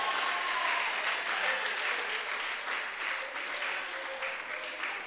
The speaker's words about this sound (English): Oh, I thought you'd be clapping over there, because I'm talking spiritually now.